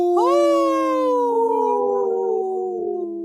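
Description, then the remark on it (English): Three people howl together in imitation of wolves on Native Roots Radio, to raise awareness of Minnesota's wolf population. It is a loud chorus of long sustained tones that slowly slide downward in pitch over about three seconds, with no talking. “Wow, us three haven't howled in, together like that in a long time”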